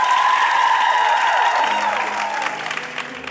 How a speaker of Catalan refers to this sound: Un aplaudiment ben gran als eterns repetidors... Que també som nosaltres!